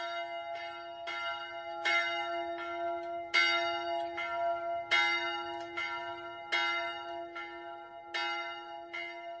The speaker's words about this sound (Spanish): En la iglesia se conservó hasta el presente un recuerdo del monasterio de Ostrov. Es una campana de 600 años de edad que está colgada en el campanario. Es una de las campanas más viejas en el territorio checo.